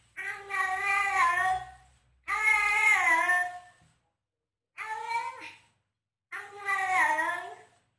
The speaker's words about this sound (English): there was a cat that has a British accent, and they recorded talking with a British accent